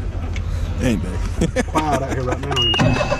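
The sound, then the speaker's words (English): A boat engine turns over and settles into a steady low rumble, running while people talk over it; a faint high whine creeps in near the end. “Yeah, fire that boat up.”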